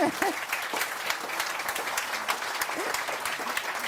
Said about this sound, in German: Aber das ist erstmal Ihr Applaus. Herzlichen Dank. Danke.